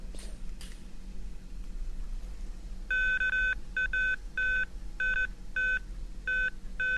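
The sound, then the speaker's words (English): A series of electronic detection beeps from a ground-penetrating radar combined with metal detection, signalling a positive response, steady mid-pitched tones in uneven bursts, some long and some short, over a low rumbling background hum. No one speaks. “And then you'll hear the beeping, which is the ground-penetrating radar indicating that it has found a positive response.”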